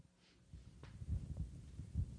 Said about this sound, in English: Oh, I've never noticed that before. There's a heartbeat at the beginning.